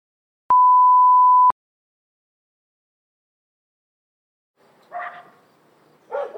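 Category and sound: animal, dogs barking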